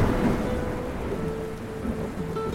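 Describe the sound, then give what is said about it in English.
Steady rain pours down with a deep, continuous rumble of thunder rolling beneath it, a dense stormy wash on a dark and stormy night, filling the whole short stretch with no voices. “For our grand finale, we have a ghost story set amongst crumbling Greek ruins on a dark and stormy night.”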